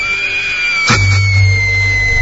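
A young girl, the daughter of the narrator's cousin, gives a high, sustained scream from outside the room, sounding muffled, broken by a sudden thump partway through and followed by a low rumble.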